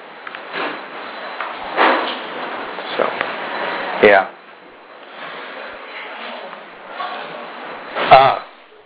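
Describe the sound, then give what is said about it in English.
A door swings shut with a solid thud partway through, followed later by a second closing bump, while murmuring voices and room chatter continue in the background. “So, could you close the door?”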